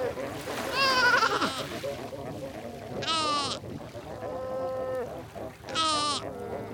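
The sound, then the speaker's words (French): In a fur seal colony in Namibia, a mother calls loudly searching for her pup, which answers with goat-like bleats, four wavering cries in turn, one lower and drawn-out, over a steady rumble of background noise with other pups crying. “Donc vous avez une mère là qui cherche son petit. On l'entend crier. Puis il y a le petit qui chevrotte un peu.”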